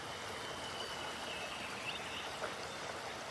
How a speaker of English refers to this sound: So this is, remember, when you're down on the ring. Oh, rushing water.